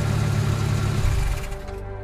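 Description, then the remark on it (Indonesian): A car engine idles with a steady low rumble in a parking space on the lowest basement level of a car park, then winds down partway through as it is switched off, leaving a fading, quieter hum at the end. No voices. “Aku mematikan mesin mobil,”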